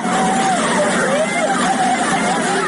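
Several alarmed residents of a house in the Sidi neighborhood of Mashhad cry out, watching from a window as floodwater carries cars away, over a loud, steady rushing roar of floodwater, the exclamations rising and falling without clear words throughout the short stretch.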